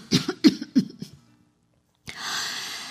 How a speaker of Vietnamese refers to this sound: Bà ngừng lại, ho mấy tiếng rồi tiếp.